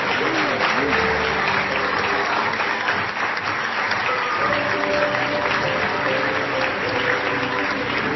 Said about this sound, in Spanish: Muy bien, ahí se entregan y para la foto final un fuerte aplauso para todas las chicas seleccionadas de esta edición 2015.